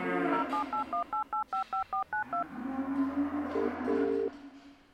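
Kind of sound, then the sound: signal or alarm, phone keypad dialing tones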